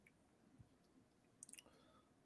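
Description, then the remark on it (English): A quick cluster of three or four small, sharp computer mouse clicks about midway, fairly soft, set against a faint, steady hum with no talking, as someone clicks to pick golfers for a fantasy golf lineup. “I clicking JT, you get yourself 74, which will get yourself an Eric Cole or a Keegan Bradley.”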